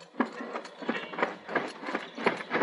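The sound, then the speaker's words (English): Steady clip-clop of hooves, about three beats per second, over a continuous rolling rumble, like a horse-drawn wagon moving along at a walk, in the moonlight at Salem Street Pier. Moderately loud, with no voices. “Fat boy's wagon.”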